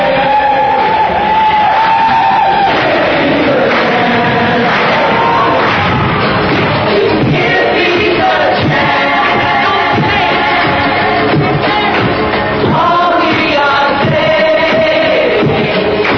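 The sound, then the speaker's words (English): Hundreds of people outside John Lennon's apartment building in New York City, after his murder, chant together in unison, many voices blending into a loud, steady, sing-song refrain that rises and falls in pitch, continuing without pause for the whole stretch. “They were silent for a long time, then a rumble through the crowd.”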